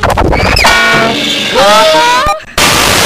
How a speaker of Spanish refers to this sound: La bocina es utilizada en barcos, trenes, motocicletas, bicicletas y en la radio.